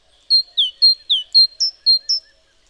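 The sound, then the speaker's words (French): A great tit calls in a bright, ringing two-note phrase, repeated four times in quick, even rhythm; clear, with no voices or other noise. “Un merle lance ses roucoulades et ses vocalises. Je distingue le cri répété, sonore et cristallin, de la mésange charbonnière.”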